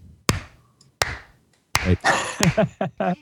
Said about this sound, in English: Okay. I think if you want to clap your hands, of course, so I can sync up the